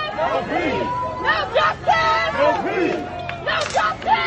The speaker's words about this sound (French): Pas de justice, pas de paix, scandent ces manifestants. Washington, cette nuit à deux pas de la Maison Blanche, forte tension avec les forces de l'ordre, affrontements mais même et tirs de gaz lacrymogène.